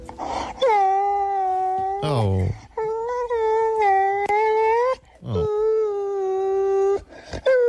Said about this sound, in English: And the puppy's whinging. She's whining over there. Have a listen.